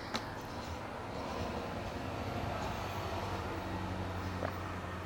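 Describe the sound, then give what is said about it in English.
Buses rumble by outside a window in a busy area, a steady low engine drone with broad road noise that holds an even loudness throughout, broken only by a couple of faint brief clicks. “You might also hear sounds outside of my window, like buses passing by and stuff.”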